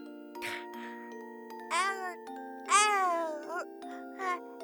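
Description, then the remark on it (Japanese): An adult voice mimics a baby, letting out several short, whiny babbling coos with rising and falling pitch, an adult pretending to be an infant and acting spoiled, over a steady, faint ringing tone in the background. “バブちゃんの本当の声、大人が赤ん坊に扮して甘える声”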